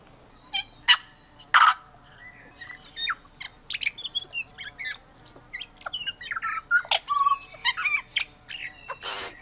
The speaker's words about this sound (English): We're listening to the tui bird from New Zealand, an indigenous bird, also known as a parson bird because of its black plumage and a little white tuft under its chin. These birds are infinitely curious and have a lot to say for themselves.